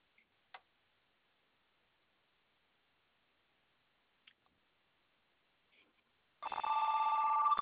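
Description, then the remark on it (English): After several quiet seconds with a few faint clicks, a home landline phone bursts into a loud, continuous electronic ring that carries on to the end. “would you answer that? Well, it's the home phone.”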